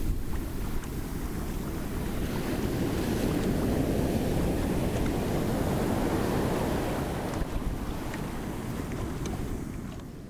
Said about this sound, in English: it would definitely be the sounds of an ocean